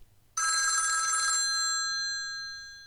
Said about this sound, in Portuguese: O telefone toca na casa de dona Renata.